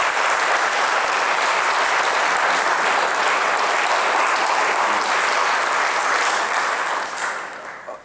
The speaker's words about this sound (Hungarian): Tapsoljuk ám meg. Nyugodtan, megérdemli.